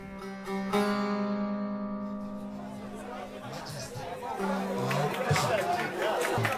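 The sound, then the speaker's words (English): A dense crowd chatters and calls out as President Ahmadinejad takes off his jacket and puts on a multicolored yellow and red cloak. The noise swells into louder, excited cheering in the second half, with a low sustained tone running underneath early on. “The crowd is getting very excited.”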